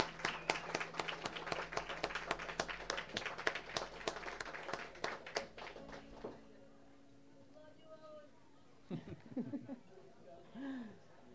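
A crowd applauds with dense, rapid clapping for about six seconds before it fades out, leaving a low hum and a few faint murmurs and voices afterward.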